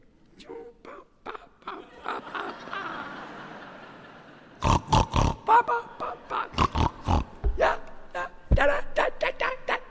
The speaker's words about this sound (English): On the banks is a pig.